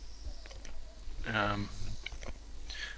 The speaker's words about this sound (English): Can you hear me munching? Yes, I bloody well can.